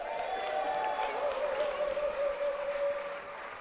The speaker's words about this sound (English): We've arrived. Big round of applause.